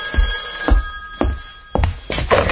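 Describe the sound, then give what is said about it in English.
A telephone bell rings loudly and continuously in a dramatization of Ray Bradbury's The Wind, a metallic jangle pulsing with regular strikes about every half second, with no voices. “Herb, the phone.”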